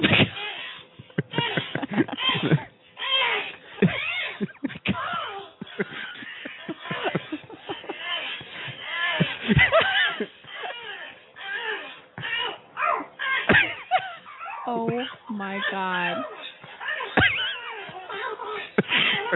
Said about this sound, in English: So the parrot, it's this little bird, but the parrot makes some sounds